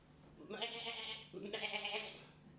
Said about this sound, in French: Un mouton.